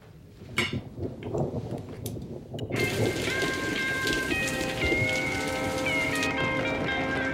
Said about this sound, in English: This scene here, I've never seen more rain in my life. This is the only shot that we got for the first maybe 4 hours we were on that location. It was a rain delay. It was like a monsoon.